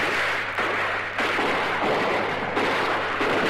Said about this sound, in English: The shots are coming fast and heavy now here in Detroit as the night is again broken by gunfire.